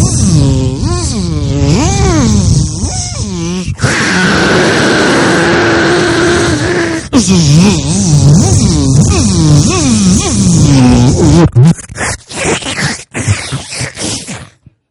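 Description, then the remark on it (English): A voice imitates a dentist's drill as heard from a dentist's waiting room: a loud whirring whine that swoops up and down in pitch in long continuous bursts, then breaks into choppy, sputtering fragments at the end. “Drilling a hole in his head and sucking his brains out?”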